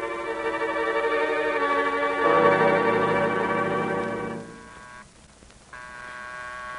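A call bell, rung by Miss Maggie to summon a servant, rings with a sustained, bright metallic tone over a low hum, cuts off briefly near the end, then starts ringing again. No one speaks.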